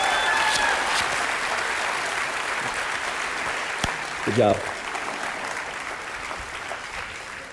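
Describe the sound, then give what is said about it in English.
An audience breaks into sustained applause, a dense steady wash of clapping that fills the whole clip, with a brief spoken remark rising over it partway through. “Would you give my man a big round of applause?”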